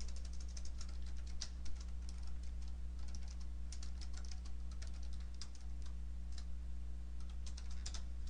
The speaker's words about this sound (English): Having a little trouble with the typing.